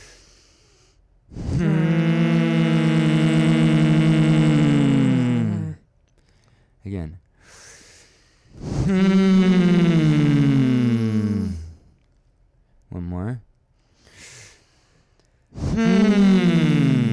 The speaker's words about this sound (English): When we breathe out, we're going to make a really big push of air, a very loud hum through our nose, pushing the air out of our nose. Try to make it even shorter, like you're just trying to vibrate, making almost a buzzing bee sound out of your nose.